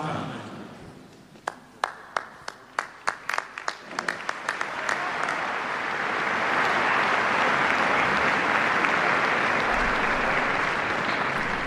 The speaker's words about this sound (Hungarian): Úgy látszik, az zarándokok idénre is megtartották a jó szokásukat, és tapssal köszönik meg Ferenc pápa szavait, az ő áldását.